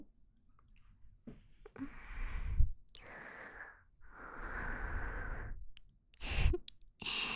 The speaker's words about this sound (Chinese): 怎么还打呼噜啊？是不是工作太累了？